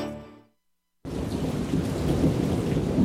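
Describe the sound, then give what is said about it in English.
After a brief fading tone and a moment of silence, a loud thunderstorm bursts in: dense, steady heavy rain roaring with deep rumbling thunder underneath. “Heavy rain and rising groundwater can turn your basement into a disaster zone overnight.”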